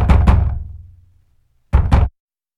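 Two firm knocks on a door with a short boomy resonance, a pause of over a second, then another quick pair of knocks. No one speaks.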